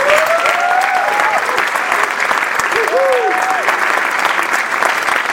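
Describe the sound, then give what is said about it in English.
An audience at a Desert AIDS Project World AIDS Day evening event applauds its everyday heroes steadily for several seconds, a dense, loud patter of many hands clapping, with a couple of whooping cheers rising above it early on and again midway. “Please join me in giving another round of applause for all of our everyday heroes.”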